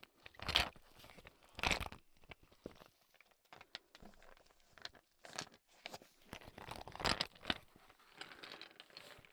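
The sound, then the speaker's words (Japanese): Ice cubes shift and clatter inside a rubber ice pillow, coming in irregular bursts of crunchy, knocking rattles with a crinkly rustle between them. No one speaks. “氷枕のカラカラ。”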